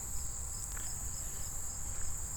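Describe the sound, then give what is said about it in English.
A steady, high-pitched drone of insects, cicadas among them, hums continuously outdoors at a pond at moderate volume, with a low rumble of wind or background noise underneath and no talking. “I can hear lots of bugs, including cicadas.”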